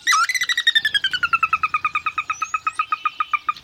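sora call

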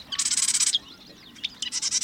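marsh wren song

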